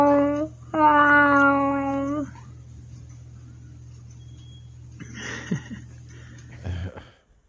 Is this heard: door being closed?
no